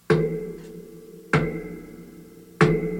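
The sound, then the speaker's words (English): Three slow, evenly spaced imitated knocks, each a sharp thud followed by a low, humming ring that fades before the next hit. No one speaks. “And I woke up and I was like, holy shit, what's knocking?”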